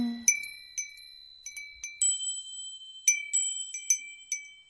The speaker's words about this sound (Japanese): このガラスにちょっと当たってるだけなのにね。これ最初に考えた人、ほんと素敵だね。いいアイデア。風鈴っていつからあるんだろう。